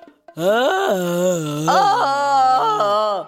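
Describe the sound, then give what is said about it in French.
A person imitates a red deer stag's bellow, a loud, drawn-out, moaning roar held for about three seconds with its pitch wavering up and down. “En ce moment, on peut entendre le brame du cerf dans la forêt.”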